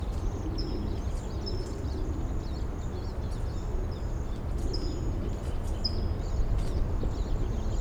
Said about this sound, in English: So recording, I hear a flock of siskins in the back, perhaps coming this way. This is 5-7.